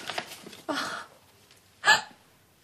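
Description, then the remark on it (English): A woman sobs, with ragged, gasping breaths and a sharp catching cry near the end, no words spoken. “You should not cry.”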